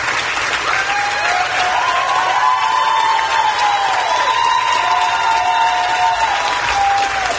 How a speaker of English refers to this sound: Now, these are college Democrats that are cheering this insanity on.